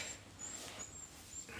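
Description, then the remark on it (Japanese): A dog named Toichiro whines to be taken for a walk, in a series of short, thin, high-pitched whimpers, repeating about four times in quick succession, with no one talking. “東一郎くんは早く連れてけと泣いてます。”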